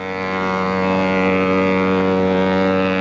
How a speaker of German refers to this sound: Am Montagmorgen, dem 5. April, drei Tage nach der Invasion, verlassen die ersten Schiffe einer britischen Armada den Marinehafen Portsmouth. Unter dem Dröhnen ihrer Schiffssirene läuft der Flugzeugträger HMS Invincible aus.